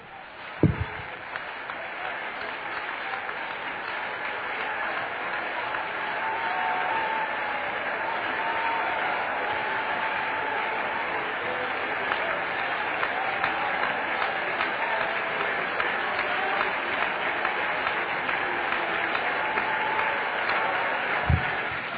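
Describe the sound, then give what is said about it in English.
Sustained applause from a large crowd giving a standing ovation, a dense steady roar of many hands clapping that holds at full strength for the whole stretch, with faint cheering mixed in. “You ought to clap on that. You ought to all stand to your feet on that and give him a standing ovation.”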